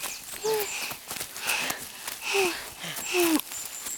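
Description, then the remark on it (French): Heavy, out-of-breath panting: about four ragged breaths in steady rhythm, each with a faint voiced gasp, and no talking. “Et c'est là que la petite troupe arrive tout essoufflée.”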